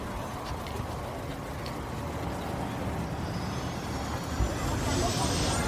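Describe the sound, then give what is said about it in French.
Steady, loud helicopter engine and rotor rumble fills the scene, with a high turbine whine rising toward the end; faint voices may be mixed underneath. The helicopter is carrying a patient to hospital in Chartres. “L'hélicoptère, c'est assez bruyant.”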